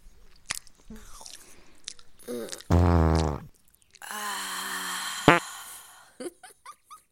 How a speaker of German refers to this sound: Damit all das Gras hier zu Milch wird. Muss ich insgesamt 30.000 Mal kauen. Und ich habe heute erst 5.000 Mal.